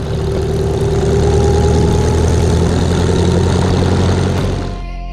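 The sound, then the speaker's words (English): A big aeroplane-engined vintage car, an Amilcar chassis fitted with a Hispano-Suiza aeroplane engine, idles: a loud, steady, deep rumble with a throbbing low drone that holds for several seconds before abruptly dropping away near the end. “I call it the Amilcar Hispano because you've got an Amilcar chassis with a Hispano sweeter aeroplane engine.”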